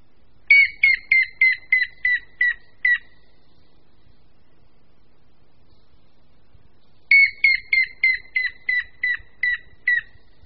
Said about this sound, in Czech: A následuje pokřik žluny šedé.